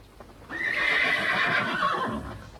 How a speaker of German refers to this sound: Schon beim ersten Morgengrauen versammelten sich seine Jäger mit den Hunden vorm Schloss, Windlichter beleuchteten den Platz und die Pferde wieherten.